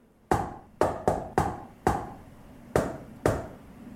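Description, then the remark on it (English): Seven sharp knocks on a large metal back door with a half moon carved into it, in the classic shave-and-a-haircut rhythm: five quick raps, a pause, then two firm ones, each ringing briefly. Fairly loud, with no voices. The knock opens an eye-level slat in the door. “A slat, at eye level, opens if you knock, shave, and a haircut. Which I do.”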